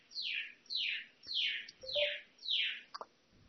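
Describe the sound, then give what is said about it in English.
A bird chirps five times in a steady rhythm, each call a clear, high, downward-sliding note, with no talking and only a few faint clicks in the background. “I'm listening to the bird.”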